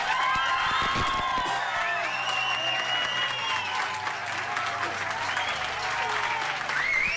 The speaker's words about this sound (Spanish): Se han grabado aplausos previos a la conexión. Even louder. 3, 2, 1. Now.